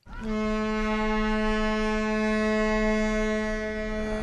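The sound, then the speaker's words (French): The horn of the cruise ship Bou El Mogdad, heard from its deck as it departs on the river for Saint-Louis, blasts loud in one long, steady, deep tone that holds for about four seconds, rich in layered harmonics, with faint background rumble and no talking. “Là, nous avons pris le Bou El Mogdad qui va partir sur Saint-Louis.”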